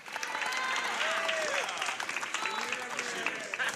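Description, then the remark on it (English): A theatre cast claps steadily for a few seconds after a helicopter test, dense continuous applause with excited voices and a few whoops mixed in underneath. “The cast applauds after the helicopter test.”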